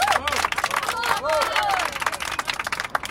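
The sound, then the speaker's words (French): A large crowd applauds steadily to welcome speaker Georges Segui, dense overlapping clapping with scattered voices and cheers rising and falling through it. “Chers amis, chers camarades, je vous demande d'accueillir par vos applaudissements les plus chaleureux, Monsieur Georges Segui.”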